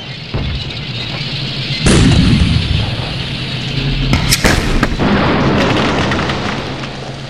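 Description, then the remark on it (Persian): A battle scene with a heavy boom of enemy tank fire that rumbles away, followed by sharp cracks and bursts of rapid fire from enemy machine guns over a constant noisy roar of combat. “توی اون جهنم آتیش تانکا و مسلسلا و تیربارای دشمن”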